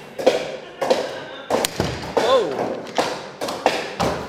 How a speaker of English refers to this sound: The first thing is we drill a hole, then we put the, we call it a nail, but it's an iron rivet in the hole. He's knocking the washer on the end.